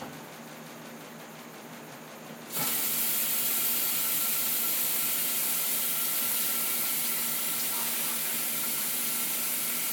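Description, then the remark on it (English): After a couple of seconds of faint hiss, a tap is turned on and chlorinated tap water runs steadily into a container, a loud, even rushing splash that continues to the end with no one speaking. “I'll just have some water.”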